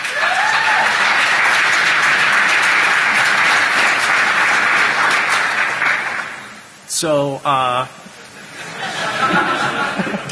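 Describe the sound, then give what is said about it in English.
An audience claps steadily for several seconds, a dense, loud wash of applause mixed with chatter, then a voice shouts a couple of quick words before the crowd noise swells again. “He thought you were clapping for him.”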